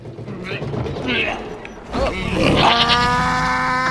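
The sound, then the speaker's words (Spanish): The heavy hatch door of an ark is pushed shut with effort: rough scraping and shuffling give way to a loud, drawn-out creak with a steady, squealing groan that holds to the end. “La compuerta hay que echarle. Le cuesta, a ver si se inventa ya el 3 en 1.”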